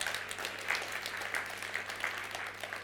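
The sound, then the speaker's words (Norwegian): An audience applauds with a dense, steady patter of many hands clapping, holding at an even, moderate level for about three seconds with no voices over it. “Og mora, ja, må gjerne klappe.”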